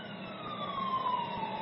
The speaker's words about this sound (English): You know, I hear about, the days that I'm home, I hear about fucking 30 sirens go by my house. Cops or fire engines.